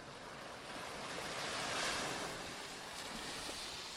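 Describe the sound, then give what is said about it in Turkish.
In a children's story, steady ocean surf rolls and washes along an Arctic seashore while snow falls, a broad continuous hiss that swells gently in the middle, heard alone with a touch of wind. “Öğlene doğru deniz kıyısına varırlar.”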